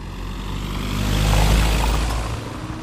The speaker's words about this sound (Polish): A i co tu się dzieje? Śmieciarka przyjechała? Śmieciarka przyjechała, panowie realizują swoje zadanie.